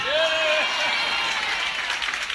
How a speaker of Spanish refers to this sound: Pues a mí no os queda más remedio que aplaudirme un poco más que a mí, que porque él tiene 50 y yo 51.